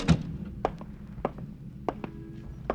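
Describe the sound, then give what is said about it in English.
An office door opens at night: a heavy thunk first, then a handful of sharp, scattered clicks and knocks from the latch and frame over a few seconds, with no voices. “and then stare at the walls, and then hear the door open for him to let it all in again.”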